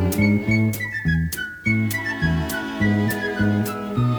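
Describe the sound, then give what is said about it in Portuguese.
A thin, high whistled melody steps up and down in pitch over a steady band backing with bouncing bass notes and regular percussive beats, no voices. “Mas se não quiser cantar, você pode assobiar.”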